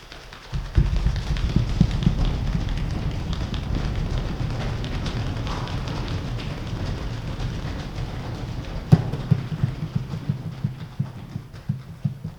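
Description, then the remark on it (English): A crowd makes a thunderstorm with their hands: a dense, steady rumble of patting and rubbing swells in quickly, holds loud, a sharp crack near the end, then it eases. “So who wants to help me create a thunderstorm?”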